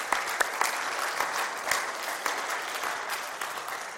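An audience applauds in praise of the Lord, a dense wash of many hands clapping at an even loudness for several seconds, with a few sharper individual claps standing out. No one speaks.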